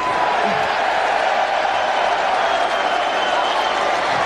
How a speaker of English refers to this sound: This is what John Jones said after winning the UFC heavyweight championship. I'm proud to be a Christian American champion. While I got the moment, while everybody's cheering and so happy, I want to acknowledge Jesus Christ.